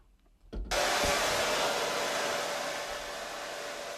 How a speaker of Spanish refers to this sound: Una secadora de pelo son 80.